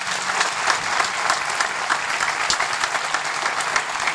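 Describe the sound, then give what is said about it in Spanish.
A crowd at Mass applauds Mazagua, clapping steadily for several seconds in a dense, sustained wash of many hands with no pauses and no voices standing out. “Un aplauso a Mazagua.”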